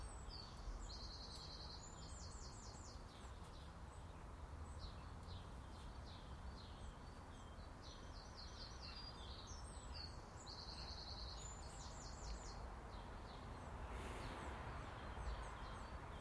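A male chaffinch sings a few short, rattling trilled phrases, with a pause between bursts, over a steady hiss of wind or outdoor background noise. No one speaks.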